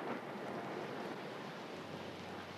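Waves washing against rock and sand in a steady, hissing roar, fairly quiet, with no single crash standing out and no voices.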